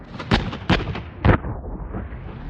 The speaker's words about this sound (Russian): Пистолет-пулемет «Койот», настроенный на стрельбу короткими очередями, трижды рявкнул «Чу-чу-чу!».